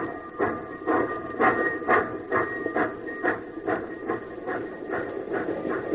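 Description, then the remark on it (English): A steam locomotive chugs along in a steady rhythm, roughly two hissing chuffs per second, with a faint ringing metallic tone running underneath. No one speaks. “Come on, you old iron horse. Run!”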